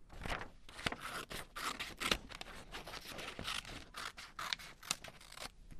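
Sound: scissors cutting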